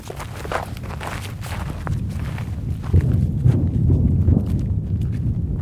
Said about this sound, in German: Um einen Eindruck zu bekommen, wie sich dieser Krieg anhört und wie er aussieht, muss man erst einmal marschieren. Es geht über dorniges Gestrüpp auf einen Hügel. Zum Grenzzaun nach Gaza ist es Luftlinie nicht einmal ein Kilometer.